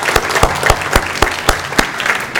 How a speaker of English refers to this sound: And Calvary, will you give him a round of applause?